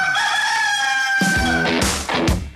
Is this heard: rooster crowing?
yes